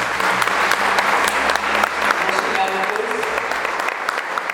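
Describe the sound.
Sustained audience applause, a dense steady wash of many hands clapping at an even loudness for several seconds, with faint murmuring voices mixed underneath.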